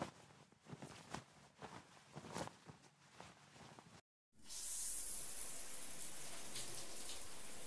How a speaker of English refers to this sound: How about a nice hot shower to help wash away the day? Yeah?